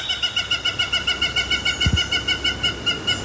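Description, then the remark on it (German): A pair of hamerkops in a zoo tropical house calls in a rapid, steady stream of high, squeaky notes that pulse evenly throughout, with a brief low thump partway through. “Es läuft uns eine Turteltaube über den Weg und ein Hammerkopfpärchen macht sich deutlich bemerkbar.”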